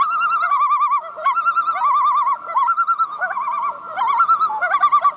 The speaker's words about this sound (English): For a while, that iconic laughing call of the loon was kind of rare in Vermont waters, but the bird population has been rebounding in recent years.